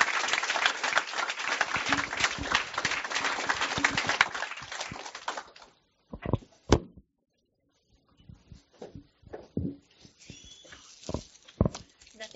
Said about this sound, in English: And while she's grabbing that, let's give him another round of applause and thanks for being here.